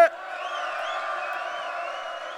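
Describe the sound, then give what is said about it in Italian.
A crowd at a rap battle final roars and cheers loudly on a count of three, a steady wash of overlapping voices, shouts and whoops that holds at full volume after a sharp onset. “Bella raga, se vi è piaciuta la finale fate casino al mio 3.”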